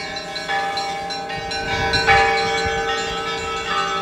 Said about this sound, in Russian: Час ночи. Неустанно гудит колокол, созывая к святыне.